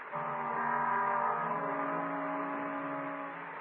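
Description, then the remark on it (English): A motorboat engine starts for a crossing of the water to a mission house, droning in a steady, low, humming tone with a buzzy harmonic quality, holding fairly even loudness for a few seconds with no voices. “The motorboat starting, you will hear, and it will come across to the mission house.”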